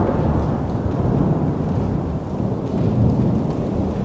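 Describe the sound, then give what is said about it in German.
Steady rain pours down with a deep, continuous rumble of thunder rolling underneath, loud and enveloping for the whole stretch, with no voices. “Gehen wir also ein paar Stationen zurück und lassen es erst einmal regnen.”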